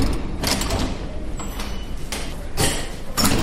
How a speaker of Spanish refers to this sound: La doctora Salas saca de su bolsillo una llave y abre una puerta